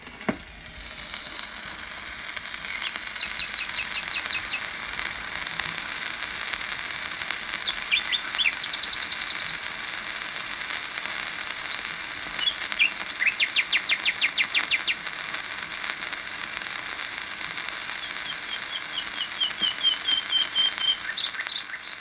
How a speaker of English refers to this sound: Let's see what these records sound like after more than 70 years. This is the nightingale.